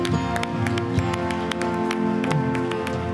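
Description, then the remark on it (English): Scattered, uneven claps from an audience crack out over a steady sustained musical chord, the sharp hand claps loud and irregular rather than a full roaring applause. “Now give him a big clap.”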